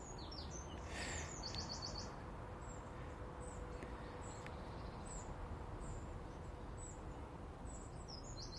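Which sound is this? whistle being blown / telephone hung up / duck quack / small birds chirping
small birds chirping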